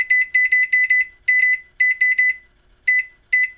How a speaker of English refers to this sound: I don't know, they only beep that one way, right? Yeah, pretty much.